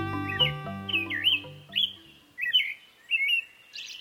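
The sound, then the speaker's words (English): An American robin sings a series of short, clear caroling phrases with brief pauses between them, fairly loud, while soft sustained music plays underneath during the first half. “As the American robin marks the arrival of spring”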